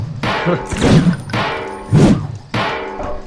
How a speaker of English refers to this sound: Yeah, each weapon has a different sound that it plays when it bounces off a wall. Yeah. Wait, what is it? No, but oh, here's a big hammer. Firing blindly at the wall. Wham!